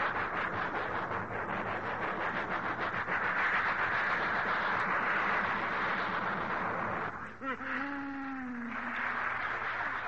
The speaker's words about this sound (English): It's a long train. Yeah.